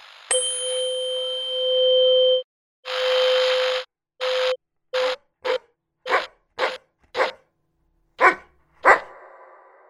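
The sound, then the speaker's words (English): A dog barks repeatedly, starting with a few longer, drawn-out barks that give way to a quicker run of short, sharp barks. The barks are loud, with no one talking. “And here's what you should be listening for in your dog's bark: the pitch and the balance of tone to noise.”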